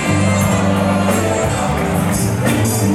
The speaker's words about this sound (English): Here we go. The crowd are singing.